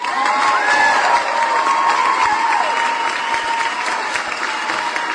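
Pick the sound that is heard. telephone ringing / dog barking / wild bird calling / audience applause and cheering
audience applause and cheering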